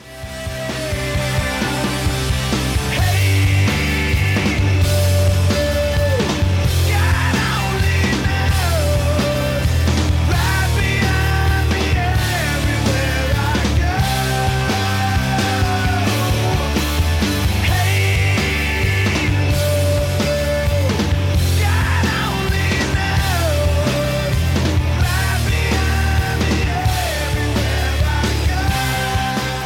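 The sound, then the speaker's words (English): The verse of a rock song plays loud and steady throughout, with a dense full-band sound: heavy bass, driving drums and layered guitars carrying a melodic line over a constant rhythm. “And of course, here's the verse from the song.”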